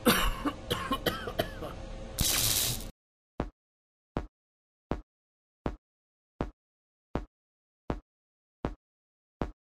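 A few seconds of dense, rough noise give way to a steady series of about ten short, sharp coughs, evenly spaced, with silence between each one, from a person whose cough medicine is not working.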